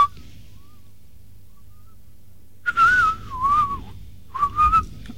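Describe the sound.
A person whistles in two short, wavering phrases that imitate birdsong, fairly loud, with a faint low hum beneath and no talking.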